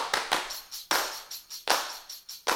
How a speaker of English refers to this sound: The clapping is really owes to this fantasy world that I have where everyone loves this song and wants to be a part of it and clap along. People just being pumped when this song comes on, they would just start clapping along.